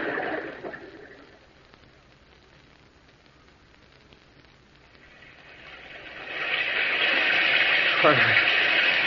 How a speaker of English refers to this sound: There's no sun, only this rain. It's so dark.